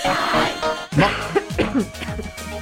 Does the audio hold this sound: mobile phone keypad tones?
no